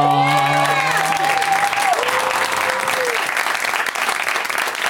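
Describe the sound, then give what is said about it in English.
A show's audience breaks into loud, sustained applause as four guests are welcomed, a dense wash of clapping with long whooping cheers and drawn-out shouts riding over it in the first few seconds. “Please give it up, everybody, for”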